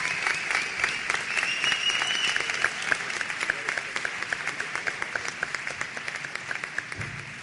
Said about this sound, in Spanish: Un aplauso entonces para este equipo.